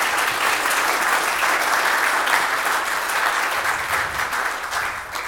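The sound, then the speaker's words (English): Sustained applause from an audience at Peace welcoming a new member, a dense, steady crackle of many hands clapping at once, loud and unbroken for several seconds with no voices rising above it. “So let's give him a round of applause for being here.”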